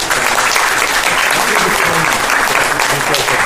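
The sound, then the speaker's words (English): Steady, dense applause from an audience for Comet, a pet who won the Petrodex Superstar Smiles Photo Contest: a loud continuous wash of clapping lasting a few seconds, with faint voices mixed beneath it. “A round of applause for Comet.”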